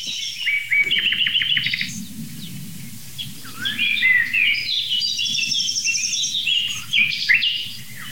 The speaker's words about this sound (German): Man hört sogar ganz zart im Hintergrund noch eine Goldammer.